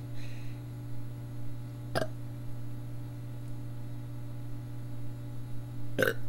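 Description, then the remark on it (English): A person trying to induce hiccups gives a quick burp, followed about four seconds later by a short, sharp hiccup, both brief bursts over a steady low background hum with no talking. “I've been burping a lot and then I hiccup.”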